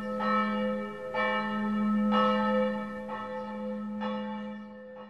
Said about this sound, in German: Sie mochte das Glockengeläut. Es erinnerte sie an schwingende Schiffsschaukeln und Purzelbäume.